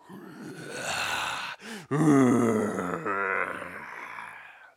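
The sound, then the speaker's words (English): A tiger roars in loud, rumbling growls: a long snarling roar, a brief breathy pause, then a second drawn-out roar that wavers in pitch before trailing off. “After 5 minutes, all of a sudden, the rich man and his coachman heard a tiger roaring nearby, and they started trembling.”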